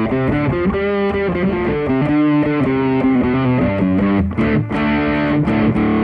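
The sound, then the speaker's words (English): An electric guitar played through a distortion pedal set at about three-quarters, with the tone a bit over the 12 o'clock position, plays loud, sustained chords and riffs continuously for several seconds, thick and saturated, with a brief dip near the end before ringing on. No one speaks. “So that's the distortion pedal up at probably 3/4, with a bit more tone, so a bit over the 12 o'clock position for the tone.”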